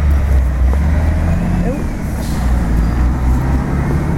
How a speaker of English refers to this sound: Oh, passing buses.